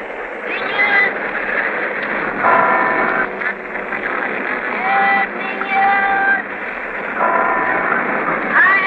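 A busy street din in Manila, recorded while moving on the Santa Cruz Bridge over the Pasig. A steady roar of traffic is broken by a traffic cop's shrill sustained whistle blasts, a newsboy calling out selling papers, and a nearby cathedral's ringing bells.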